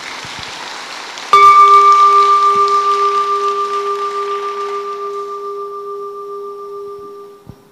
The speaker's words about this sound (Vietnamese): Nếu có còn hoan hỷ với cái lời góp ý của thầy, hãy cho một tràng vỗ tay để cảm kích nào.